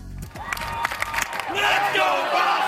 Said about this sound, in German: So jubelten die Menschen auf den Straßen in und um Boston gestern Abend Ortszeit. Endlich, nach fast 24 atemlosen Stunden, war die Terroristenjagd vorbei,